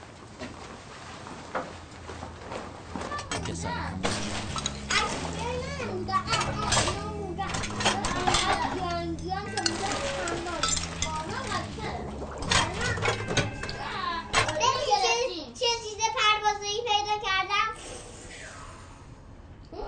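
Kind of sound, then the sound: crowd, children playing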